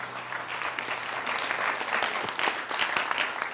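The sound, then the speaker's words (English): A crowd applauds steadily after a prayer, giving God an applause, a dense wash of many hands clapping at an even, moderate level for a few seconds with no voices rising above it. “Let's give God an applause.”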